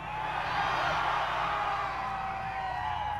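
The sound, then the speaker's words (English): A dense, steady roar of a large concert crowd yelling and whooping, loud and continuous throughout, with many overlapping voices and high shouts blending into a wash of cheering. “Ever since then, I always think when I talk, nobody can hear and they just yell.”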